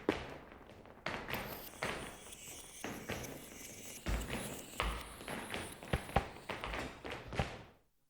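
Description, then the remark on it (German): Rhythmic footsteps tap and thud in a steady, repeated pattern, distinct, with sharp impacts recurring every fraction of a second and no voices over them. “Wenn man den Leuten auf den Treppen zusah, dann konnte man feststellen, dass die meisten Menschen nach wenigen Schritten irgendwie mit den Schrittmusiken in den Takt fielen.”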